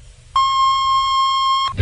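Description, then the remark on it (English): A single steady electronic beep tone, sustained for about a second and a half, then cut off abruptly. It is clear and fairly loud over faint low background hum: the National Bureau of Standards time signal marking 9 o'clock on WJBK AM and FM radio, Detroit, Michigan. “At the tone, National Bureau of Standards time will be 9 o'clock.”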